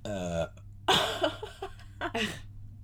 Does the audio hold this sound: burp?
yes